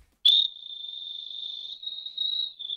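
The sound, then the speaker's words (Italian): A beatboxed mouth imitation of crickets at night: a steady, high, buzzing trill that starts with a sharp click and holds for nearly three seconds, wavering slightly in loudness. No one speaks. “Questa è Grilli da notte.”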